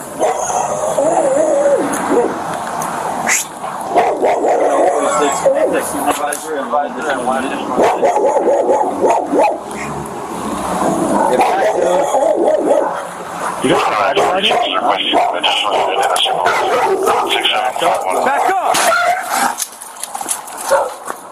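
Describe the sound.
A dog barks repeatedly and excitedly, with occasional whimpering yelps, while a police officer shouts at its owner to secure it, people shouting over it throughout.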